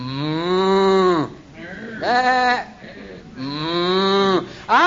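Sheep and cattle calling: three long, loud lowing moos with brief pauses between them, drawn-out and wavering, with a bleating quality, and no talking.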